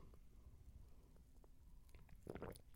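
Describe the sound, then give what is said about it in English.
Quiet sips of water from a bottle: soft mouth and lip sounds, then a brief, slightly louder gulp near the end, with no talking. “which is why I had to take another sip of my girl water, which by the way, I know we're like almost an hour in, but if you guys haven't had a sip of water or haven't drank today, let's take a sip together.”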